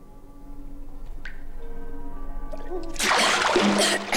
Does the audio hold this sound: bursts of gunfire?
no